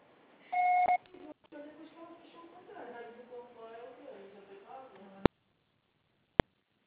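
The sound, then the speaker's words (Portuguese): A single loud, steady electronic voicemail recording-signal beep of about half a second, followed by a voice talking for several seconds and then two sharp clicks separated by silence. “Você será tarifado após o sinal.”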